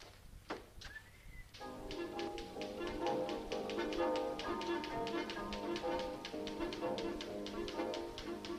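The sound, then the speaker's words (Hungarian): Typewriter keys tap in a steady, rapid rhythm, clear and close, over a bright musical backing after a brief rising tone at the start. “Jaj, de csúnya betűk, mit törődöm velük? Nem kopogok tovább már a szívem. Muzsikál. Csúf masina mehetsz, máma szabad lehetsz, helyetted előveszem a legjobb lemezem.”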